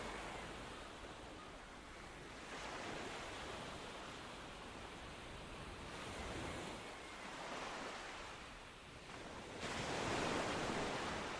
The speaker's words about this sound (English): Observe the sea for a time, its steady, everlasting movement against the shore.